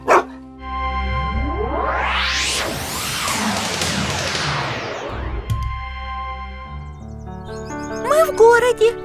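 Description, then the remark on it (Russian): A loud whooshing sweep rises and fades, like something passing by. Near the end, a small shaggy dog on a street in the early morning gives a quick burst of three or four high, yappy barks. “Ой, смотри, Вера, там маленькая собачка.”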